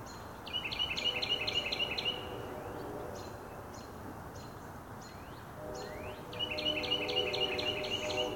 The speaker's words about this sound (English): Maybe that's what the bird's saying. Serving as a gentle reminder. Calling out early this morning.